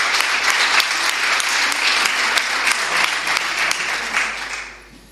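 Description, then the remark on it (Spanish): A crowd applauds steadily, a dense wash of many hands clapping at a fairly loud, even level for about four seconds before the clapping thins and fades away at the end. “Un aplauso. Enhorabuena.”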